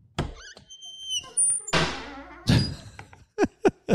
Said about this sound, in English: Fucking fridge gets a hammering, doesn't it?